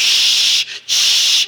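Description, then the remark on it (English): A voice imitates rain with the mouth as a sound effect for a told horror story, a loud, steady breathy hiss, broken by a short pause before the hissing resumes and fades out. “I do lousy rain.”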